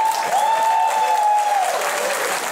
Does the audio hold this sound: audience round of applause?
yes